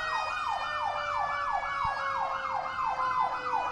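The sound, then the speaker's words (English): An emergency vehicle siren wails outside, its tone sweeping rapidly up and down in a steady repeating pattern, moderately loud, with no voices present. “We've been getting so many sirens today.”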